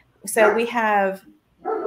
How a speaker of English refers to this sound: that's my dogs.